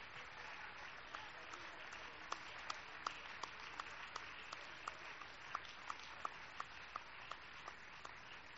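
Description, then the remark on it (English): A church audience claps their hands for the Lord in steady, sustained applause, a dense wash of many claps with a few sharper individual claps standing out throughout. No one speaks over it. “Let's give the Lord a great big hand clap.”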